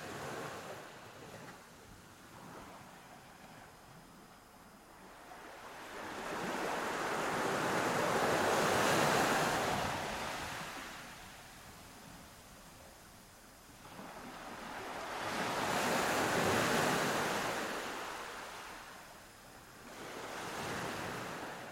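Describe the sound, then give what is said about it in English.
Ocean waves wash onto a beach in slow, rolling surges, three broad swells of hissing surf rising and fading over a steady windy rush, with no voices. “And the third thing I encourage you to do is to give your mind permission to wander and journey with me as we go onto the beach where the seagull resides.”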